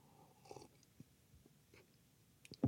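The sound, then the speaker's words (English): Someone sips a drink, with a few faint slurping and swallowing sounds spread over a quiet moment, ending in a slightly louder gulp. “Let me grab another sip here.”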